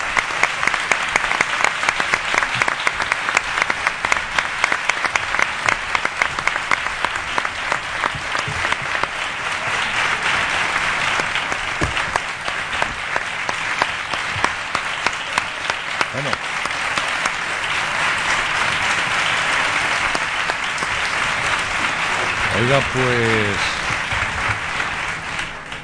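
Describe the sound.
Sustained audience applause for minister Zoido, former mayor of the city, a dense, steady wash of many hands clapping for about twenty-five seconds, loud throughout with slight swells, and a brief spoken word near the end.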